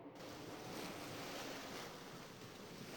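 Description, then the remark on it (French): Rough sea surf churns continuously with a steady roar of wind in winter storm weather at the Sanguinaires islands, the rising sea white with foam; loud, a dense wash of crashing water and gusting air with no voices. “La mer monte. Les sanguinaires sont blanches d'écume.”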